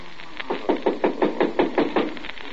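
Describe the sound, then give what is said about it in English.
A rapid, steady series of about ten firm knocks on a door by a neighbour from next door, evenly spaced and fairly loud, with no voices. “Somebody at the door.”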